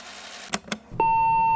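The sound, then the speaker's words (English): Two sharp mechanical clicks, then a loud, steady electronic answering machine beep on the That Would Be Rad hotline that holds a single pitch without wavering until the end. No voices. “Listen for the beep and be rad.”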